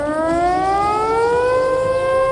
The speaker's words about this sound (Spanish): Este es el sonido en Japón, donde las autoridades del país, donde está muy presente el recuerdo del tsunami de 2011, han activado las alertas en la isla de Hokkaido, al norte.